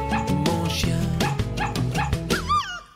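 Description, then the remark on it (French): Several short, sharp dog barks and yips pop out over an upbeat music track, ending with a rising-and-falling whimper as the music fades. “Et quand je n'aurai pas d'amis pour aller jouer au parc, quand je n'aurai pas d'amis, je jouerai avec mon chien, chien.”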